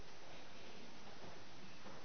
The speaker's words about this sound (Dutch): Stormen.